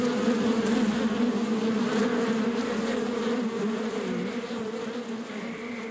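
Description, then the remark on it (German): A dense swarm of bees drones in a steady, continuous buzz that fills the whole stretch, easing slightly softer toward the end as the swarm flies away toward a forest. No voices are heard. “Die Vögel waren inzwischen auch wieder zurückgekommen und der Bienenschwarm flog in Richtung Wald davon.”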